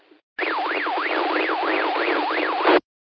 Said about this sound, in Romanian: Așa zic, ca să fie treaba, mai vine și o alarmă de Baofeng, că parcă uitați ăla de pe Istrița, cred că ăla-i. Dacă găsește cumva o menghină, s-o strângă un pic, să vedem dacă mai sună după aia.